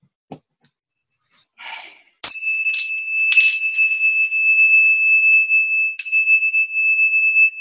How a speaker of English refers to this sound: These are Tibetan bells. They are made of seven elements, the seven planets in the solar system. There you can see the symbols of the seven planets. Gold, this is made of gold, silver, lead, iron, copper, quicksilver, and silver for the moon.